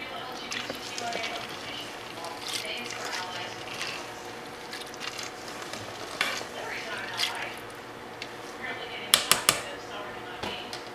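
A spoon scrapes and clinks around a crock pot in steady, uneven strokes, stirring in red peppers, red pepper flakes, garlic salt, seasoning salt, pepper and water, with a few sharper knocks near the end over a low background hum.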